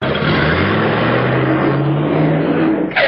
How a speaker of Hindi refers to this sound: ए madam, ए madam, गाड़ी संभाल के चलाई ना तो एक्सीडेंट हो जाए।